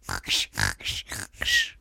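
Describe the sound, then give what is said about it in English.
A voice imitates Goofy's quick cartoon snore, not the big loud one: five short, raspy, breathy bursts in a fast, even rhythm, fairly loud, with no talking. “Here's the Goofy snore, not the big loud snore, the quick snore like you're just doing.”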